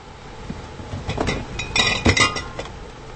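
Glass jars of raw cow's milk clink together several times in quick, irregular bursts as they are pulled from a cooler against the wall of a refurbished shuttle bus, fairly loud, over a low steady rumble of background noise.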